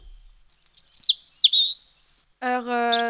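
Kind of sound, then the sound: bird, nightingale singing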